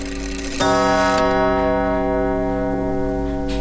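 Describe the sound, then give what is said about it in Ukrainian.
An old house clock, which strikes every hour and once more at each half hour, strikes once with a rich, ringing tone that hangs and slowly fades, while a steady tick keeps time underneath. No voices. “ну, тому що він вже мішав там комусь ці спати, бо ну, він відбиває кожну годину і плюс ще один раз б'є кожної півгодини.”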